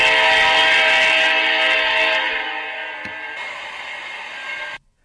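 A train horn blares loud and steady over the rumble of a passing train, gradually fading as it moves off before cutting out abruptly after about five seconds. No voices.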